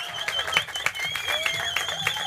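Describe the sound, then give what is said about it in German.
A live audience at the Norrisring claps steadily for a couple of seconds, a dense, crackling wash of hands with a few sharper claps standing out and a faint high whistle-like tone running through. “Vielleicht mal einen kleinen Applaus hier.”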